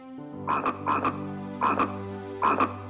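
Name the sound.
frog croaking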